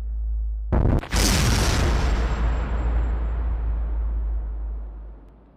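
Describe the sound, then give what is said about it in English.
A sudden, massive explosion representing the Big Bang erupts after a low rumbling lead-in, a deep booming blast that roars loudly and slowly decays over several seconds with a long, rumbling tail. No voices are present. “Referred to as the Big Bang, it's hard to imagine what, if anything, existed before this epic eruption of energy, formed all the nebulas, stars, galaxies, and other cosmic phenomena.”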